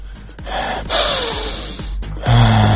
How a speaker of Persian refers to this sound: نفس عمیق میکشم.